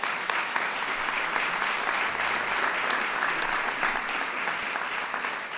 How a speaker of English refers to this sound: Some made the Big 12 honor roll with perfect GPAs. That's worth an applause right there.